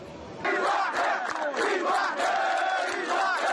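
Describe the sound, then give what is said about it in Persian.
A large crowd of migrants in Greece shouts and chants together in protest while blocking railway lines, demanding to go on to Macedonia and the Balkans; many voices rise in loud, overlapping waves that start abruptly and continue steadily without a break. “اعتراضات مهاجرین از 8 روز به این سو خطوط راه آهن را مسدود کرده است.”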